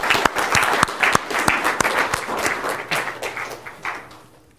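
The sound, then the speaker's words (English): An audience at a course lecture applauds steadily to acknowledge a teacher's years on the course, many hands clapping in a dense, sustained wash with a few sharper individual claps standing out, gradually fading toward the end. “So if we could just acknowledge the years that he's put into this course, with a round of applause”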